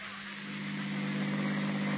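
A new car's engine runs with a steady low hum and broad rushing noise, growing slightly louder as the vehicle pulls away. No one speaks.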